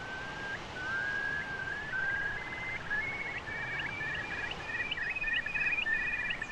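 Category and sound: bird, bird call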